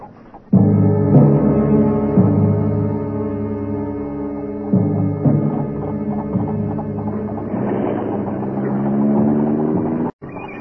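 An early motor car owned by the McGregors chugs loudly with a steady, buzzing engine drone and irregular putters, swelling briefly as it rolls past, then cutting off near the end. No one speaks.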